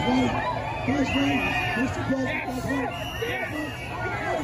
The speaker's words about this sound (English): There he is waving. He's wearing a mask inside the car, and you have a bunch of Trump supporters outside cheering.